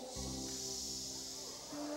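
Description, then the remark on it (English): A voice makes a long, steady shushing "shh," a bright hiss held for about two seconds over low sustained musical tones. “When there's uprising in your life, he can go shh.”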